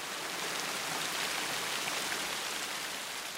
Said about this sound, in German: Diesmal waren sich alle einig, dieser Regen ist eine Katastrophe.